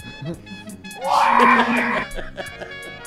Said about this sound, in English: Scream.